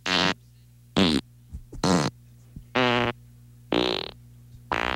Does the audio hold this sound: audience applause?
no